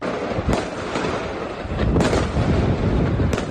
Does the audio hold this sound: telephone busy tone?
no